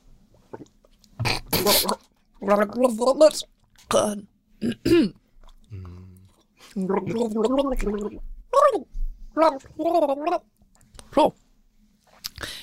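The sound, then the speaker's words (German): Someone gargles water while singing a song for another person to guess, producing a wobbly, bubbling melody broken into short bursts with brief pauses, moderately loud throughout. “Soll ich es nochmal machen? Mit ja, weniger Wasser.”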